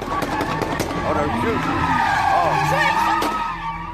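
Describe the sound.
Sports cars spin donuts at high speed at a night car meet with street racing in Chicago in October, tires skidding and squealing in wavering, sustained screeches over a steady roar of revving engines, loud throughout, with crowd voices mixed faintly underneath.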